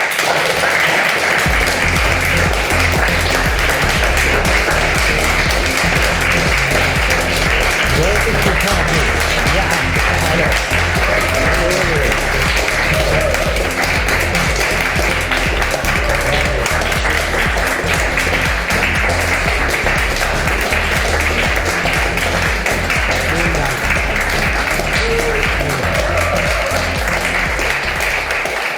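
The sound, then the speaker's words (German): Loud, sustained applause from a large crowd welcoming a guest, dense and continuous for about half a minute, with faint voices and cheers mixed into the clapping. “Haben so wild geklatscht, dass man die Musik kaum gehört ich hat.”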